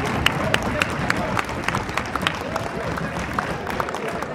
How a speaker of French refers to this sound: L'amphithéâtre est quasiment plein. La réunion va commencer. Qu'est-ce qui arrive ? Claude Goasguen, député du 16e. Il est applaudi, hein ?